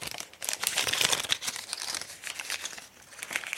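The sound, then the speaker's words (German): Scissors cut through a colorfully printed package made of metal foil laminated with plastic, a steady run of crisp crinkling and crackling with small snipping bursts, continuous for a few seconds with no talking. “Aufreißen kann ich das Ding nicht. Da muss ich mit der Schere ran und dann sehe ich auch warum.”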